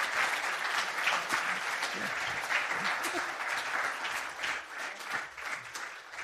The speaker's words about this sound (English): Let's just give them a huge round of applause and thank them for their time. Thank you so much.